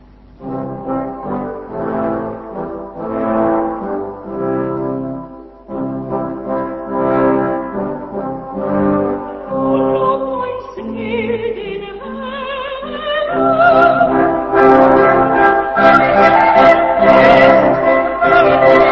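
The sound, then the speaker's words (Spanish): Two cornetts and three trombones play together as the instrumental accompaniment of a religious work, in sustained, slow-moving chords, the ensemble swelling fuller and brighter toward the end, with no voices present. “lo interesante es que el acompañamiento instrumental está hecho por dos cornetos y también por tres trombones, y entonces ahí vamos a poder escuchar justamente los dos timbres combinados, el del corneto con el de los metales.”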